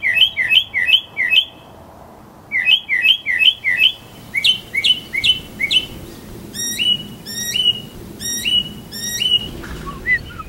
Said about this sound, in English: But this call doesn't belong to musicians alone. It's also sung by one of the city's most common species, the mockingbird.